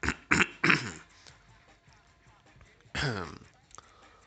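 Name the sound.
cough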